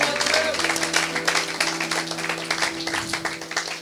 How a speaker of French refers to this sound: Ah, applaudis et dis gloire à Dieu. Ça, c'est mon Dieu.